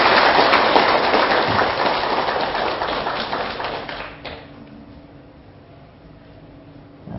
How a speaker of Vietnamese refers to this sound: thì xin tất cả chúng ta hãy cùng dâng cao tràng vỗ tay để phát nguyện này.